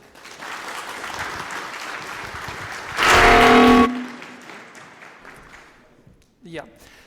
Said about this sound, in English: So please have fun with the talk. LibObscura, cameras are difficult, and LibObscura is the friendly camera library. Please enjoy the talk with a round of applause